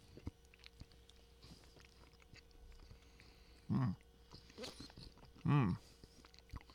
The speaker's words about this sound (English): I'm chewing because there's a chunk. There's definitely a chunk of brownie in there, and it tastes just like the cosmic brownie.